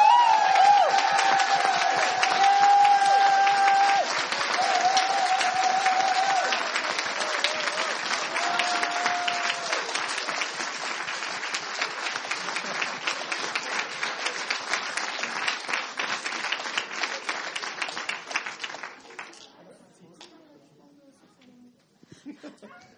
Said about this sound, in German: Ihr habt schon viel geklatscht. Wollen wir gleich nochmal so richtig fett mit einem Applaus Dankeschön sagen an die ganze Truppe, groß und klein? Ja.